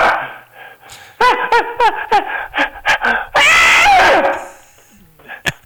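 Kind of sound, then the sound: human body sound, sneeze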